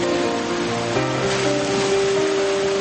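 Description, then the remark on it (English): Ocean waves wash steadily onto shore in a continuous, fairly loud hiss of surf, with soft sustained musical tones humming underneath. “would you sail with me? Do you feel the waves on your skin?”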